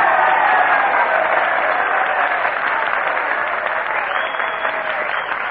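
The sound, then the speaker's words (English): An audience applauds steadily, dense clapping filling the whole stretch at a loud, even level that eases off slightly toward the end. No one speaks over it. The applause is to encourage Jack Benny to come up and play a violin solo. “I'm sure that with a little encouragement and applause, we can get Jack Benny to come up here...”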